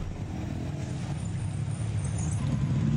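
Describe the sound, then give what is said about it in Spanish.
A motorcycle engine drones steadily as a prospective customer test-rides the motorcycle, a continuous low rumble with a broad wash of road and wind noise, holding an even loudness throughout with no speech. “Va en su moto, vas probando la moto.”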